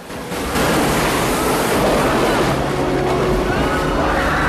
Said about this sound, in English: They're drenched in white water as the boat is thrown around violently. The boat is dangerously close to the falling water.